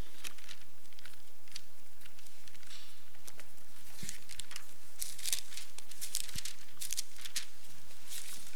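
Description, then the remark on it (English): Soft papery rustling and crinkling from many Bible pages being flipped at once as people turn to Leviticus 17, a scattered crowd-like patter of turning sheets with occasional louder flicks, no talking. “Nice to hear the pages turning.”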